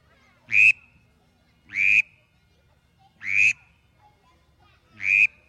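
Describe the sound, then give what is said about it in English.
Four short, sharp whistles repeated at a steady pace about every second and a half, each with a raspy low undertone, made on a duck call imitating a mallard drake's whistle. “Now, the drake is a whole lot less vocal, and he doesn't quack at all. He'll sound something like this.”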